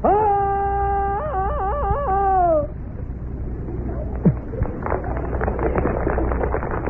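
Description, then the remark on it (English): A man's voice imitates a newsboy's cry that starts like the jungle yell of Tarzan of the Apes: a loud, sustained cry that breaks into a rapid yodeling warble, then trails off, followed by faint scattered crackling. “His cry starts out exactly like the hero of every newsboy, Tarzan of the Apes.”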